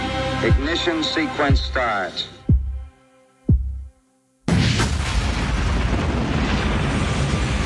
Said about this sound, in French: Vous le verrez peut-être au cinéma, à écouter au casque, c'est pas mal. Le bruit du décollage et le casque qui vibre, ça tremble presque dans le studio